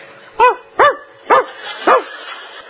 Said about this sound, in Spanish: ¿Te siente algún rumor? Es el perro.